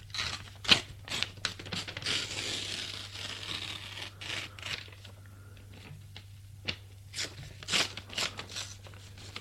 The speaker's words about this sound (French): Il ouvre le journal, délicatement, sans faire trop de bruit, et délicatement déchire la feuille.